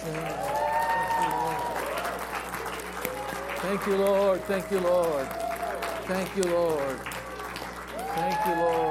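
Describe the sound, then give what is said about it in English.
A large crowd of worshippers claps steadily while many overlapping voices shout and call out praise to the Lord, loud, dense and sustained for the whole stretch. “Clap your hands. Sing and shout.”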